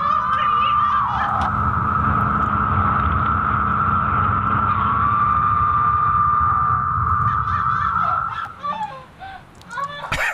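A dense, steady chorus of cicadas in Connecticut hums as one sustained mid-pitched drone for about eight seconds, over a low rumbling background, then breaks into scattered wavering calls near the end.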